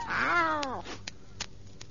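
A cat gives one drawn-out meow that slides downward in pitch and fades after under a second, followed by a few faint, scattered clicks against quiet background.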